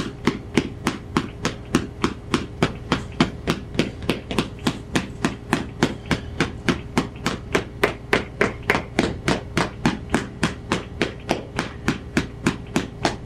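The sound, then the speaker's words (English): Loud hammering: a steady, rapid series of sharp blows, roughly three per second, continuing evenly throughout with no one speaking. “Right now we're doing it with the hammer.”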